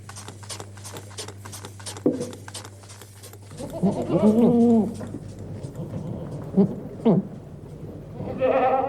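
Several goats bleat during milking, from the 1989 audio piece Ziegenmelken by Bodo Hell, their wavering calls overlapping from about the midpoint onward, with short rustling and clattering sounds in between and a low steady hum early on.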